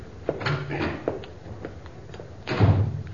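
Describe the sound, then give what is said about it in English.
A door closes with a solid, muffled thud near the end, preceded by softer handling and shuffling noises, with no speech. “I'll show you to the door.”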